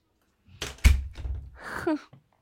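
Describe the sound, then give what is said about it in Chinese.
The door of a home is opened for an arriving visitor: a couple of sharp clicks and a heavy thunk from the latch, some rattling movement, then a brief squeak as it swings. “嗯，好的，小贱人，我现在就去给你开门。”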